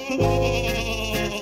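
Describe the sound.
A single wavering, nasal nanny goat bleat imitated by a human voice through the nose, lasting just over a second, fairly loud with no other sounds around it.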